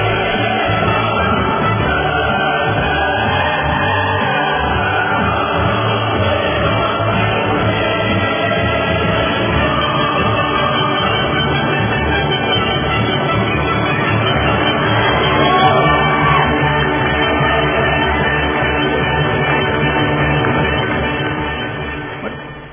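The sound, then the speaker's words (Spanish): A large crowd applauds in a loud, dense, continuous wash of clapping that holds steady for about twenty seconds before tapering off at the end, with no talking over it. “Démosle ahí los aplausos, pues”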